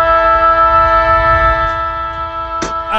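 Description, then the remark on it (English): A short, newly acquired siren sting plays loud and steady to open a segment, holding a bright, buzzing tone for a few seconds, with a brief hissing burst near the end and no one talking. “Got a new siren this week, too.”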